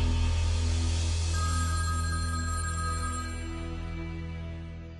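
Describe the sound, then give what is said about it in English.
A telephone bell rings steadily and fairly loudly, a continuous metallic trill that fades slightly toward the end, with a low hum underneath and no voices. “But the monk is not watching, he slipped out to the kitchen to pile the dishes and answer the phone.”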